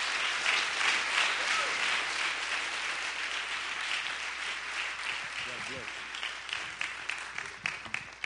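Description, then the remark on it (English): A church audience breaks into sustained applause welcoming a visiting minister as he comes forward, a dense wash of clapping that holds steady for several seconds before thinning into scattered claps, with faint voices murmuring underneath. “Let's give him a warm welcome as he comes.”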